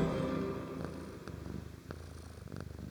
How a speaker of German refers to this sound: Was gibt es für einen schöneren Start in eine Podcast-Folge als das Schnurren einer Katze?